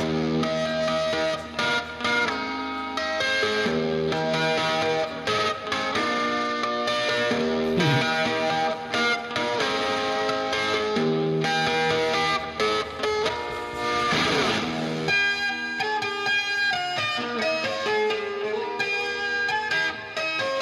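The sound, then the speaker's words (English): An electric guitar played with effects so its notes ring like steel drums, bright chiming tones in a dense, loud, continuous run with a swooping pitch bend partway through. No voices. “Nobody thought of making a guitar sound like steel drums before.”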